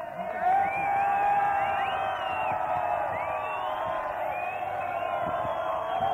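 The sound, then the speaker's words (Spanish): A large crowd of about 600 people in pajamas and slippers roars and cheers continuously in the Puerta del Sol plaza, with overlapping shouts and rising whoops over a dense, steady wash of noise and clapping for several seconds. “Por si acaso, vamos a pedir que todos aplaudan o que digan un ed bien fuerte.”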